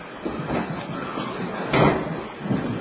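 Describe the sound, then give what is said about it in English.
A chair collapses as someone falls, with a short, loud crash of wood and metal. The noisy scraping builds briefly, then subsides into a rumble of shuffling. “Oops, someone just fell.”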